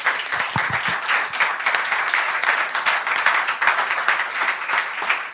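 applause from studio audience

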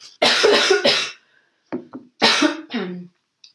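coughing

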